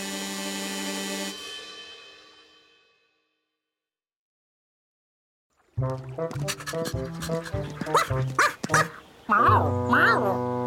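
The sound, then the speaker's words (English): A dog barks and yips repeatedly, fairly loud, in a lively burst that follows a sustained tone fading into a few seconds of silence. “And there's a dog.”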